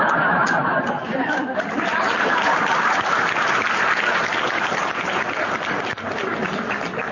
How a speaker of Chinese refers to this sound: 还有点掌声。